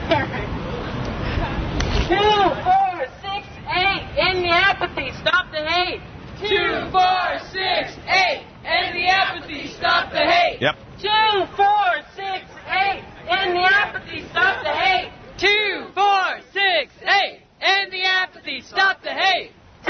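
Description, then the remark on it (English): A large outdoor crowd at a Dyke March cheers, chants and shouts continuously, with many voices rising and falling in rapid bursts, loud, like a lively street march. “I'm at the Dyke March right now.”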